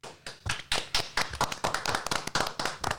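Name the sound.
small group applauding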